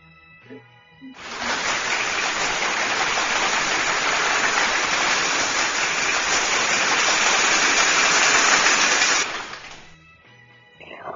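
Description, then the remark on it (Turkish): A classroom of people bursts into applause on hearing that a pupil passed with the grade "peki" (good), a dense, steady clapping that holds at an even level for about eight seconds before cutting off sharply, with quiet before and after. “Sınıftan kocaman bir alkış yükseldi.”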